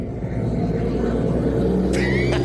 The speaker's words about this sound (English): Wait till the truck passes.